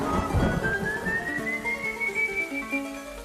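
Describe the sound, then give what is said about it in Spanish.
An eerie, drawn-out whistle glides slowly upward in pitch and holds, the characteristic whistle of a spectre from a Venezuelan legend, floating above a dark, droning musical backdrop with a low rumble at the start. “Durante el trayecto, el silbido característico del espectro acompañó sus pasos.”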